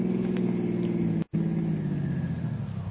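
A car engine hums steadily, a low droning rumble that cuts out for a split second midway, then resumes and gradually eases down as the car slows to a stop on a road.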